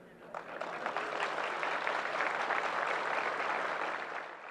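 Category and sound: crowd, audience clapping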